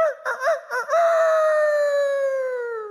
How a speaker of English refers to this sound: Immediately in verse 72, it says, the rooster crowed.